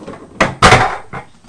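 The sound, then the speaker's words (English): A window blind is pulled back, giving a short clatter, a longer rustling swish, then a softer rattle as it settles, with no talking. “Let me just pull the blind back.”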